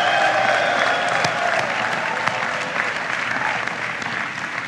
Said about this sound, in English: Graduates, give a big round of applause to your family for everything that they've done for you.